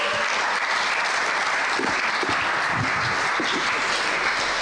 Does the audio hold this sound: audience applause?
yes